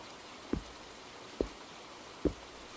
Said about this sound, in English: Come inside. It's still raining from last night. You should really get inside.